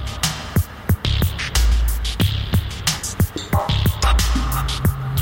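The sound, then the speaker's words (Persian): A hazy electronic dub techno synth texture pulses in a loose rhythm, with sharp clicks and soft breath-like swells that make it sound like a robot breathing. No one speaks. “خودش رو به شکل این صدایی که انگار صدای نفس کشیدن یک ربات نشون میده.”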